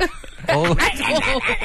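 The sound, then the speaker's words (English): Guinea fowl honk loudly and harshly, bursting in after a quieter start and repeating in a run of raspy, nasal calls that stay prominent throughout. “They are so incredibly loud, and it's a trend out there at the moment. Ugly looking birds.”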